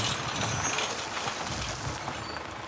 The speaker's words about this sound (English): Okay, let's listen. Whoa! It's a big, green dump truck. What do you hear?